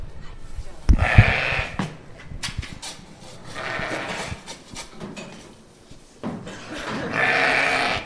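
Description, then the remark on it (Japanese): Several Corriedale sheep, an Australian breed, bleat loudly and eagerly in overlapping bursts after being shown feed, with long wavering calls and more voices chiming in, a busy, excited chorus of the flock. “さあ一気に羊たちが元気になりましたが、なぜかというと餌を見せましたらですね、急に元気になりました。はい、すごい声です。”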